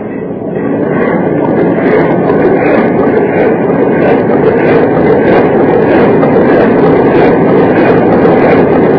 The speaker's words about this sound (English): Try the engine. There, Chief. Yes, sir. We'll try the engine. Ready, Chief? Yes, sir. Hold steam astern.